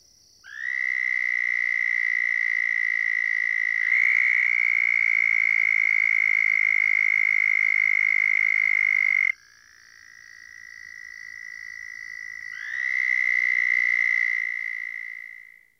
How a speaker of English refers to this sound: In contrast, the southern toad, which is about 3 inches long, calls at a much higher pitch, nearly 2,500 cycles per second.